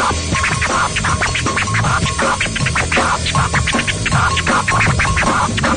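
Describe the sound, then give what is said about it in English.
A drum set played energetically in a fast, busy rhythm during a morning broadcast of the Kevin and Bean Show, with dense repeated hits and a steady low thump underneath, loud and continuous with no voices. “The king behind the drum set really bringing it this morning.”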